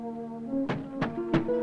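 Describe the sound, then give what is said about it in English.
Three dull, heavy knocks from the inside of a locked church door, heard from across the street. They are evenly spaced about a third of a second apart and sound over a steady low tonal hum with no voices. “From across the street, Harlan hears the knocking from the inside of the locked church door.”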